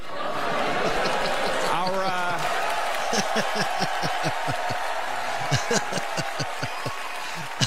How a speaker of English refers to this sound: A lot of applause. A lot of applause.